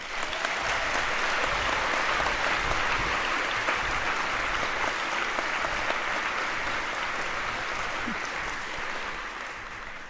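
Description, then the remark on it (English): Sustained applause from a sizable audience, steady and dense clapping for about ten seconds before tapering slightly at the end, with no talking over it. “which is the translation team, which we also think is a very good team that will not present something here, but I think is due an applause as well.”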